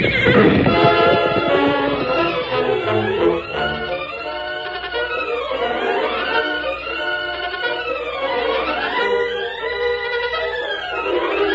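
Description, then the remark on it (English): A horse in a Lone Ranger radio drama whinnies loudly and repeatedly, shrill rising and falling neighs filling the whole stretch, with a faint thud of hooves galloping underneath. No one speaks. “That horse is gone from him.”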